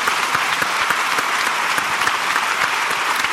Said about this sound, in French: Eh bien, on peut l'applaudir.